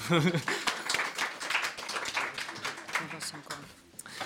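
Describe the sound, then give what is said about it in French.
An evening audience breaks into sustained applause welcoming two historical novelists, a dense, steady wash of many hands clapping for about four seconds, with some voices mixed into the noise. “J'en peux les applaudir.”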